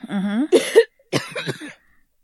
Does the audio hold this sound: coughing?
yes